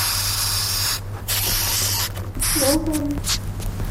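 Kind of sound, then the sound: insect, madagascar hissing cockroach hissing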